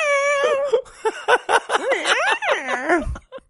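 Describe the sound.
A person makes a run of high, whiny meow-like sounds, imitating a cat, with bending pitch over about three seconds, fairly loud with no other sounds.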